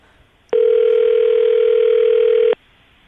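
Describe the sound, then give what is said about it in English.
A single ringback tone on an outgoing phone call placed from a radio morning show on Moving 92.5, redialing a woman after a bad connection: one steady, mid-pitched buzzy ring lasting about two seconds, loud and unchanging, with quiet line hiss before and after and no talking. “I'm trying to call her again.”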